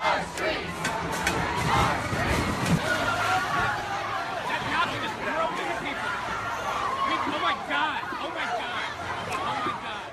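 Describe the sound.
A car plows through a dense crowd of protesters at the white supremacist rally in Charlottesville, Virginia, in 2017, with loud, chaotic shouting and screaming sustained throughout, overwhelming, many voices overlapping at once.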